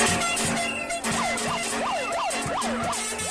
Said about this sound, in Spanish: Pitos, sirenas y cacerolas para expresar el rechazo a los despidos en el Westin Palace.